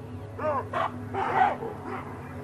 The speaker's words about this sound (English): The cheetah were everywhere, and I just heard cubs, you know, their little whistles all over the place.